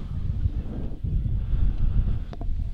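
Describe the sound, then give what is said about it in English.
Steady, loud wind buffeting the microphone at an outdoor softball game on a cold day, a low rumbling roar that fills the whole stretch, with a couple of faint brief clicks near the end and no talking. “Windy. Did we mention it was windy?”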